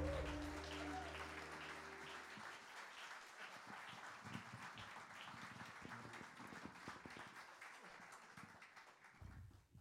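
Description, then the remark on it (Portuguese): A large audience applauds steadily for several seconds, a dense wash of clapping, while a sustained musical chord rings underneath at the start and fades away. “grande salva de palmas”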